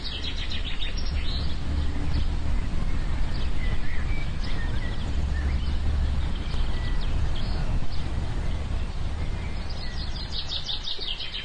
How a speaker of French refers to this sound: Alors il me semble avoir entendu des camions, une voiture, un brinque-ballet dans la rue de la Bellemire. Et complètement à l'opposé, il y a un oiseau qui s'agite un petit peu.